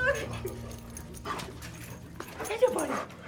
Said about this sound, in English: A lovable therapy dog greets me at the door.